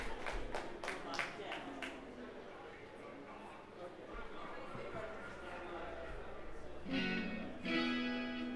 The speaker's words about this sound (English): Cheering.